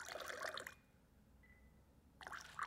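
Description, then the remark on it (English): Cold tap water trickles into a glass in two short bursts, a broad splashing dribble separated by a quiet pause with a faint ringing tone, not loud. “While New York City gets its water from here in this area and from our reservoirs, and it's really good, so we're just going to slowly dribble water into the glass.”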